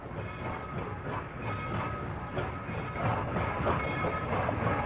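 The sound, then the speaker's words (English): A train rumbles steadily along the rails with a continuous, fairly loud roar and a faint rhythmic clack of wheels over the track joints, with no voices. “Martin, the new brakeman on that hellbound train”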